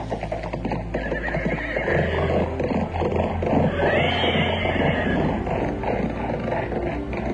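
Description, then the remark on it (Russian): Horses whinny loudly and repeatedly over a dense rumble of hooves as a frightened carriage team bolts off the road; the sound is continuous and busy for the whole stretch. “Кучер слетел с своего места, офицер почти вслед за ним, и кони скоро скрылись из глаз.”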